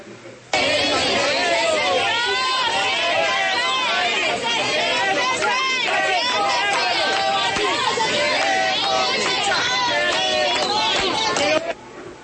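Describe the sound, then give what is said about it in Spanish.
Protesters shouting outside a theater: a loud, dense mass of overlapping raised voices that holds steady for about eleven seconds, with no single speaker standing out. “Esto es lo que gritan los asistentes.”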